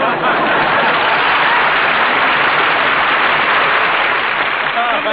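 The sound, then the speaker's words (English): An audience applauds steadily for about five seconds to make Cantor sing, a dense, loud wash of many hands clapping that holds at an even level without fading. “It says in the script here, the audience applauds to make Cantor sing.”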